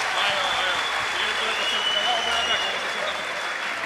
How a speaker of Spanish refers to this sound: ¡Un aplauso para el equipo!